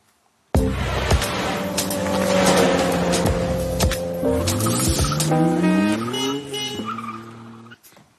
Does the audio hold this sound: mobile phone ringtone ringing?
no